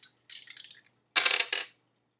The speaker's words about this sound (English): I'm going to roll some dice.